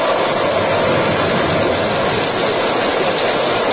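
A loud, continuous roar of a stormy sea and howling wind in a typhoon, battering the ship Pequod, torn of her canvas to bare poles; dense and unbroken throughout, with surging water noise filling the whole scene and no voices present.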